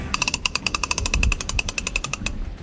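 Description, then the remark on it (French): Sheets being winched in aboard the sailing ship Grand Sail: a steady, rapid run of sharp metallic ratchet clicks, about ten per second, over a low rumbling background, with no voices. “Alors là on est en train de relever un peu nos écoutes.”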